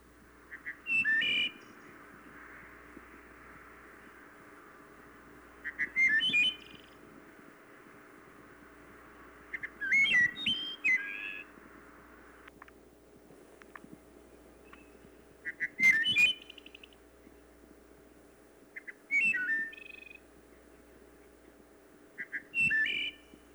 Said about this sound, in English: And speaking of the wood thrush, it is a summer resident only in the northern third of Florida and is not common. Nevertheless, it does nest and often in residential areas with big trees. This one is singing in Gainesville.